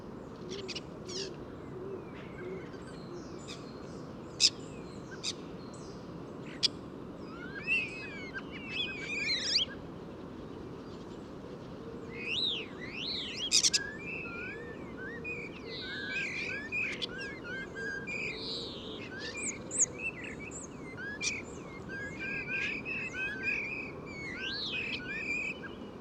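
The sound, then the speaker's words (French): A chattering chorus of about ten common starlings at the top of a tall plane tree, with busy whistles, clicks and rasping calls layered over one another, while the soft low cooing of a stock dove sounds faintly in the background. “Maintenant, je suis en compagnie des étourneaux sansonnets. On a une dizaine au sommet d'un grand platane.”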